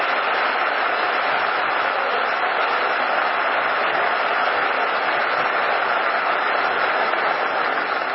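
An audience in Mexico, addressed before the president, applauds itself for its effort and work, steadily for about eight seconds, a dense, even wash of many hands clapping at constant loudness with no voices standing out.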